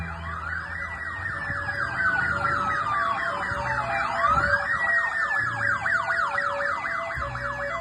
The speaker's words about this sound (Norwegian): En fuktig og grå augustdag for et par uker siden svinger tre svarte, pansrede BMW-er opp foran retten I Dublin. De kommer med fulle sirener og høy fart.